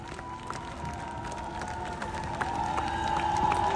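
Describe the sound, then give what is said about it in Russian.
A crowd gives a big ovation for a performer before a premiere on the country's main stage: dense, steady applause with scattered sharper claps and a cheering roar underneath, swelling slightly louder toward the end. “Искупайте его овации.”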